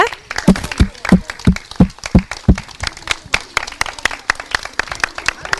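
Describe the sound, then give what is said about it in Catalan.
A group applauds a fourth-grade pupil announced as the winner of the auca contest, starting with a few strong, evenly spaced claps that quickly spread into dense, steady applause from many hands, lasting several seconds. “Un aplaudiment.”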